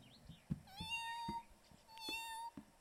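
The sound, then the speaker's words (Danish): Two drawn-out, high meows, one after the other, voiced by people imitating a cat, fairly loud, with a few soft thumps between them. “Ej, I er bare gode til at sige som en kat.”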